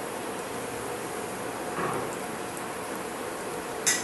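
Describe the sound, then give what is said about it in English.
Cumin seeds sizzle in a hot pan with a steady, even hiss and fine crackle that runs unbroken throughout, broken only by one brief sharp click near the end. No one speaks. “Now once these have started sizzling, we're also going to throw in one green chili.”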